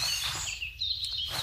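Birds sing in a forest, a steady layer of thin, high warbling and whistled notes over a soft low rumble, with no voices.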